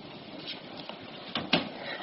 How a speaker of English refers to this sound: Shut the door